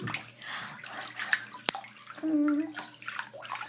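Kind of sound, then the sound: household object, water sloshing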